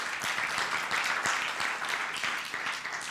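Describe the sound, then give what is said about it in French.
Steady audience applause after a two-minute testimony, a dense wash of many hands clapping at an even level for a few seconds, with faint voices underneath. “Alors, toi, tu donnes un témoignage de 2 minutes, on t'applaudit.”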